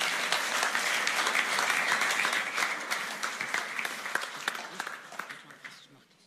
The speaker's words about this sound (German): Gib nur wieder einen Applaus.